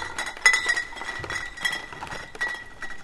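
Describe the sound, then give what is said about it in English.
Glass beer bottles of Heineken or Molson in a case wrapped in a shirt clink and knock against each other repeatedly with each step as they are carried, in an irregular, jostling rhythm, moderately loud, with bright ringing tones and no voices. “We wrapped the case of Heineken or Molson in a shirt we'd brought for just that purpose, but the shirt wouldn't muffle the telltale clink of the bottles as they knocked against each other.”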